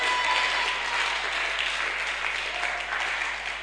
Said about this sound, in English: Oh, I want you to clap. Ah, sister, you're not clapping. Oh, let your attitude of joy affect your clapping.